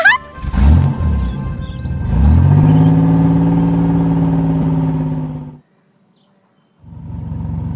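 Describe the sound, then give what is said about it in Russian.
A bus engine revs up as the bus arrives at a stop and settles into a loud, steady hum. It cuts off abruptly into a second of silence, then rumbles back on near the end. “Автобус приехал на остановку.”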